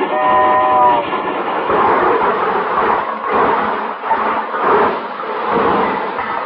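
A presidential special train pulls into a station, a brief horn tone sounding at the start, followed by loud rumbling and a steady, rhythmic clatter of wheels, with no voices.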